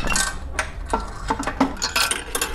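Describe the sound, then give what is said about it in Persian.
Coins are dropped into an old roadside coin-operated payphone as it is demonstrated, making a string of bright metallic clinks and rattles at an uneven rhythm, with no voices over them. “این یک رو پره انداختیم از بالا دیدین.”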